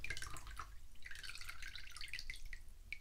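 Numbing agent trickles and drips into water, with soft splashing and sloshing as it's stirred to mix it around; a steady, quiet wet sound with no one speaking.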